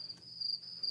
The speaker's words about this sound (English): Say, what's that chirping noise? Chirp, chirp, chirp, chirp. Why, it's the sound of a cricket.